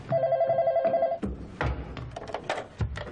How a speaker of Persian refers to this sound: من دستم بنده، یکی این تلفن رو برداره. من برمیدارم.